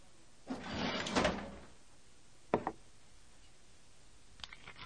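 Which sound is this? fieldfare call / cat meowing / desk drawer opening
desk drawer opening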